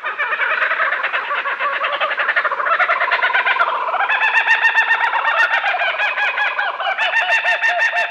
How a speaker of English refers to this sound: This oddly familiar, crazed laughter belongs to the laughing kookaburra of Australia. Its exotic call has been a Hollywood standard for decades